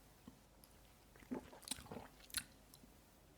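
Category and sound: food or drink, sipping a drink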